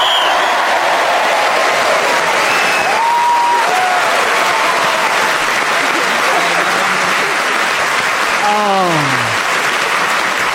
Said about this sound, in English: Well, a tremendous round of applause